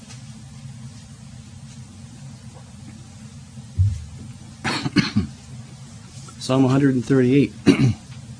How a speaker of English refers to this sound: If we ever get rid of winter, I'll get rid of this cough.